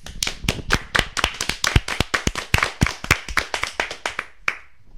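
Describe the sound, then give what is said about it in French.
A few people applaud a speaker's conclusion with brisk, closely spaced hand claps, steady and fairly loud for about four and a half seconds before trailing off. No one speaks. “C'est magnifique, un tonnerre d'applaudissements, bravo !”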